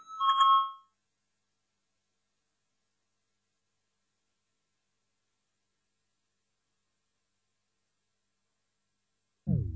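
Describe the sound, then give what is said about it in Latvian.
A parliamentary voting bell, rung before a vote on the legal committee's sixth proposal, gives one brief, bright electronic chime at the very start, followed by long silence until a low, muffled sound begins right at the end. “Lūdzu zvanu, balsosim par 6.”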